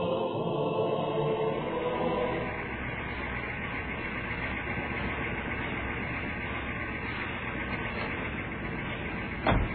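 A car engine rumbles, louder and rougher for the first couple of seconds before settling into a steady idle, then a single sharp thump like a car door closing right at the end.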